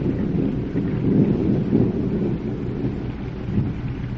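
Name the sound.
thunder and rain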